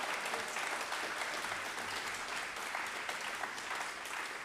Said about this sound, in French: Et puis, il a été applaudi devant un des grands responsables de l'État.